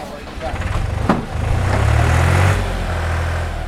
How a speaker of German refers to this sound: Langsam entschwindet der Traktor auf einer Straße. Links und rechts säumen Gewächshäuser seinen Weg.